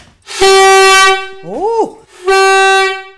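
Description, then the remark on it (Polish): A barge signal horn blares loudly in two long, brassy blasts, separated by a short wavering, bending toot between them. “To tutaj mamy trąbkę sygnałową, która naprawdę głośno trąbi.”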